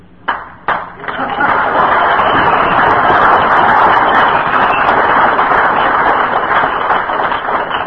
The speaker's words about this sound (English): I've never had an applause for this. This is the GSR crowd, isn't it?